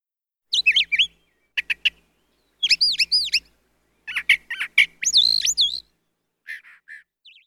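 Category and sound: bird, bird chirping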